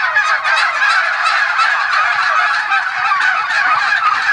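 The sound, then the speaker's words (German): A flock of turkeys on a farm gobbling continuously, a dense, overlapping chorus of warbling, rattling calls that stays loud and steady throughout with no pauses. “Sämtliche Schritte von uns beiden werden mit kritischen Augen begutachtet und auch auf truthähnische Art und Weise kommentiert.”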